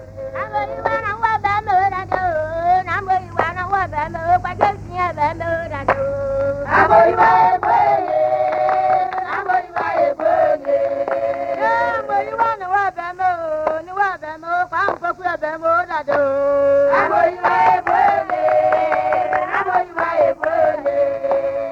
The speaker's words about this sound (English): This clapping in groups of six can be varied. Instead of six regular claps, you may find all the women clapping on the first beat only. 1, 2, 3, 4, 5, 6. 1, 2, 3, 4, 5, 6.